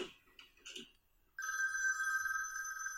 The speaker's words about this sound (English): Why don't phones sound the same in all movies? This is the way phones sounded in 1983. There was a ringing sound. Not like now.